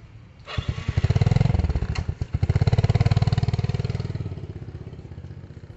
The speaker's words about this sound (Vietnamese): Nhanh lên, để tôi lấy xe máy đèo bà đi nhá.